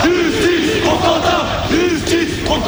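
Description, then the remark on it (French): A crowd of several hundred people chants the protest slogan "Justice pour Quentin" in unison at place de la Sorbonne in Paris, in pouring rain: loud voices rising and falling in a steady repeated rhythm, with a constant wash of background noise underneath. “Sous la pluie battante, des centaines de personnes demandent justice pour Quentin.”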